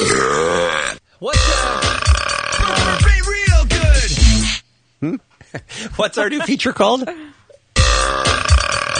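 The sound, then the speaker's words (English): A long, loud, rumbling burp rolls out, its pitch wobbling as it drags on. Someone speaks briefly before and after it. “3, 2, 1, burp.”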